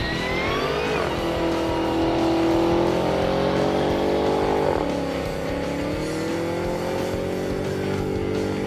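A Demon muscle car engine roars loud as it accelerates hard toward a top speed of 211 mph, its pitch climbing steadily and dipping twice at gear shifts, with the throaty drone continuing throughout and no voices.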